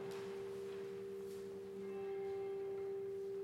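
A bell rings with a steady, sustained hum and shimmering overtones that swell slightly partway through, heard alone with no voices.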